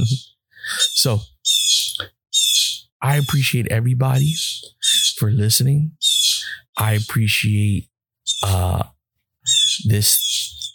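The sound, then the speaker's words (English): Busy backyard birds chirp and call over and over in the morning in bright, high bursts, fairly loud, sounding both between and beneath a man's steady speech. “Oh, I got these birds in my backyard going crazy.”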